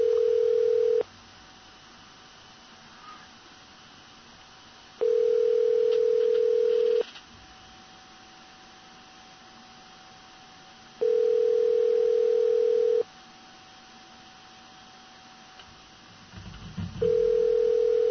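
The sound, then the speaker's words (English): A telephone ringback tone from an outgoing call to a man's cell phone that goes unanswered: steady, clear beeps about two seconds long, each followed by several seconds of quiet, repeating four times with no one speaking. “Are ringing him on his number and seeing what's cooking.”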